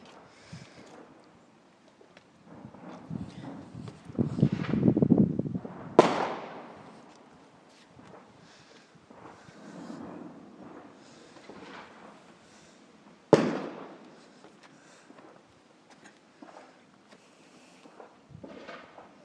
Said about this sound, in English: That's a different type of fireworks.